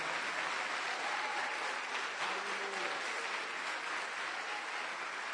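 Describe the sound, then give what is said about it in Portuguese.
Sustained applause from a church audience clapping for Jesus, a dense steady wash of many hands clapping at once, fairly loud and continuous throughout, with a faint tonal hum briefly rising underneath. “Querido, você que crê na palavra de Deus, dê um aplauso para Jesus.”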